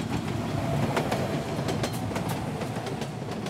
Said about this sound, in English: but more importantly, there's the Hartsfield-Jackson Airport terminal train.